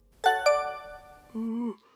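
A mobile phone rings with a short electronic melody: two bright, quickly decaying chime notes, then a steady lower tone held for a moment, with no voices.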